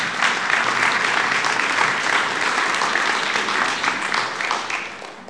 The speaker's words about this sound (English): I do think it's worth a round of applause.